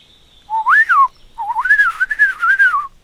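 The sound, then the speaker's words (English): A person whistles in imitation of birdsong: a short rising-and-falling phrase, a brief pause, then a longer warbling run of quick trills at a steady mid-high pitch. No talking. “So, you can talk to birds now, can you?”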